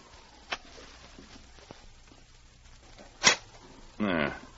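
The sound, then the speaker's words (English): A dog named King growls once, fairly loud, a short rough snarl near the end, preceded by a few scattered knocks and a brief sharp rustle, inside a dark cabin where he has run to the far side of the table. “The interior of the cabin was dark, but King ran directly to the far side of the table and growled once more.”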